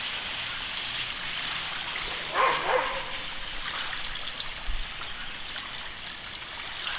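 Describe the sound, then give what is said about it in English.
A dog, Alau, barks a couple of times, short barks, while running back and forth chasing the waves on the shore, over a steady roar of waves washing onto the shore. “My dog, Alau, likes to chase the waves, and she's running back and forth, chasing the waves as they crash on the shore, barking at them.”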